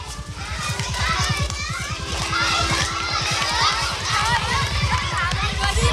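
A busy crowd of schoolchildren shouting and chattering as they come out to recess in a village's central square, their high voices overlapping continuously, over a steady low rumble in the background.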